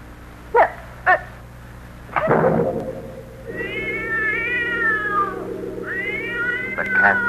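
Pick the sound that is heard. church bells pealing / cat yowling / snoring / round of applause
cat yowling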